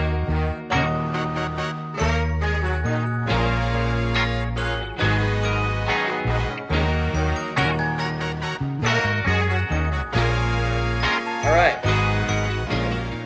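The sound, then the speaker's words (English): A loud, upbeat intro jingle plays for about thirteen seconds: punchy bass notes and bright layered chords in a steady, bouncy rhythm, with no talking over it. “Hit the intro.”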